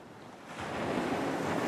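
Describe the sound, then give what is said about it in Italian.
Sea waves wash onto the shore in a steady, broad hiss that swells louder after a moment and keeps rolling, with no voices over it. “Rilassatevi un po' ascoltando il rumore del mare e buon training.”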